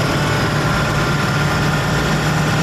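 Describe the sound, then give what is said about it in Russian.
An armored military vehicle engine idles steadily before soldiers drive out to a frontline position a few kilometres from the enemy, a deep continuous rumble with vibrating low tones and no speech over it. “Сподіваємось на те, що наша броня витримає, цукорок щось підкаже, так що з Богом, виїжджаємо на позицію.”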